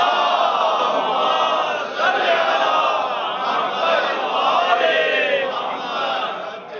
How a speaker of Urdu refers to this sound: یعنی وہ چیزیں بی بی کی بارگاہ میں بلند آواز سے درود بھیجیے.